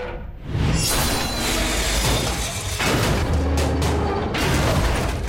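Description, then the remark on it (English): A heavy metal fire escape on a building across an alley, shredded from the bottom up by Logan's claws, crashes down with Remy on it in a loud, sustained clatter of scraping, shattering debris and deep booming impacts, dense for several seconds with no voices. “A final slash sends it and Remy crashing to the ground.”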